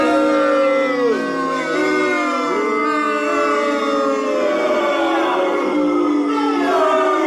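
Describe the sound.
A person imitates a dog, letting out loud, drawn-out howls with wavering, sliding pitch that carry on without pause for several seconds, with no ordinary speech.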